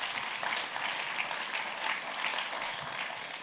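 Steady audience applause, a dense wash of many hands clapping at an even, sustained level for the full length, with no voices standing out.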